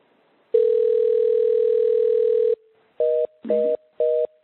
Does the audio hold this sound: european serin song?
no